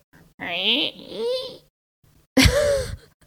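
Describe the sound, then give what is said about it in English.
A voice imitates the chair squeak from a film scene in which Keanu sits in a chair: two drawn-out, wavering, high-pitched whining sounds, then a shorter, sharper squeal after a brief pause. “Why'd they put in the chair squeak so prominently?”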